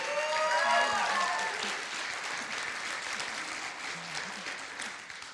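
A large church audience applauds steadily as a speaker comes up, dense clapping at a fairly loud, even level, with a few cheers or whoops rising briefly near the start.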